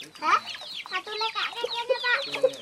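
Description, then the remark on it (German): Several chickens in the sand, with two little girls playing among them, cluck and squawk continuously, their overlapping calls rising and falling in a busy, chattering rhythm with no pauses. “Zwei kleine Mädchen spielen im Sand mit den Hühnern.”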